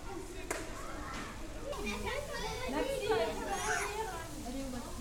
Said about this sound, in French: Un prof explique à ses élèves comment plonger. À la piscine, il faut parler fort. Il y a beaucoup de bruit.